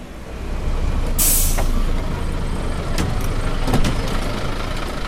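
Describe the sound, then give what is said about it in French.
A sharp hiss of bus air brakes releasing over a steady low engine rumble, followed by a few fainter hisses and clanks as the bus idles on arrival in Rosario, Argentina, after a four-hour ride from Buenos Aires. “Alors voilà, on vient d'arriver à Rosario, 300 km environ au nord-ouest de Buenos Aires, 4 heures de bus.”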